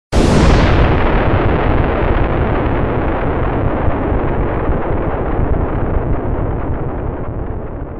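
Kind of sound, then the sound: sound effect, big explosion sound effect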